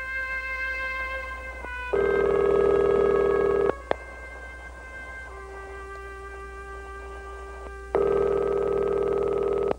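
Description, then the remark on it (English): A Skype outgoing call to Italy rings, with loud tonal bursts of about two seconds separated by quieter, steady harmonic tones, repeating in a regular cycle. No one speaks. “So we're going to let it ring, and should be there.”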